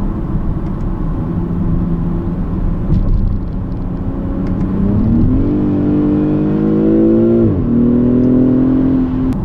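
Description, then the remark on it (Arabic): A car engine revs hard as the car accelerates from 0 to 100 in 5.5 seconds, its pitch climbing steadily, dropping sharply at a gear change, then climbing again. Loud and continuous, with no voices. “فنقدر نقول تسارع السيارة هذه من 0 إلى 100 في 5.5 ثواني.”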